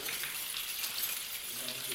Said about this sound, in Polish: Now I want to ask you to do something. Chcę was poprosić o coś. Would you shake your keys very vigorously? Możesz jak mocno potrząsnąć tymi kluczami.